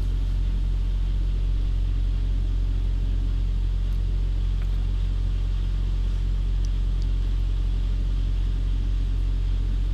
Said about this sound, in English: Well, I've got my window down. You can hear the truck start. You know, the reefer unit's running. It's a 71 degrees continuous run. Then the truck periodically starts, and you know, I've got the air conditioner coming on.